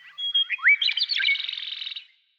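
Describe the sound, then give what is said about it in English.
A bird sings a quick, varied phrase of high, sweet chirps and sliding notes that run into a rapid trill before stopping, clear with no one talking. “The key to this extraordinary range of sounds lies in the bird's physical anatomy.”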